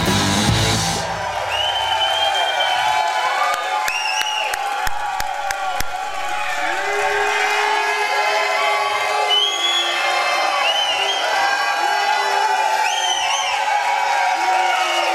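A huge stadium crowd at a Kansas City Chiefs football game roars and cheers loudly and without letup, thousands of voices blending into a dense wall of noise, with scattered whoops and shouts and a few sharp claps near the start.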